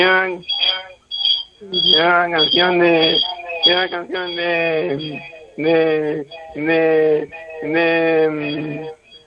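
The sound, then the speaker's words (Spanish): A caller's radio plays in the background over a narrow, tinny phone line from Vigo during a call to a radio show, its voices and tones coming through in steady bursts with short gaps, slightly echoey and compressed. “una cosa, ¿puedes apagar la radio mientras hablamos? Porque casi no te escucho y para que no acople el sonido, ¿te parece?”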